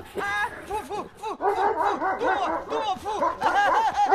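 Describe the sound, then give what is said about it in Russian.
A huge dog snarls and barks ferociously in rapid, overlapping bursts, loud, while a man, the character Truffaldino, cries out in distress amid the frenzy, heard from the darkness in an audio play; the dog bites him. “Из темноты слышится грозный собачий рык и душераздирающий крик Труффальдино.”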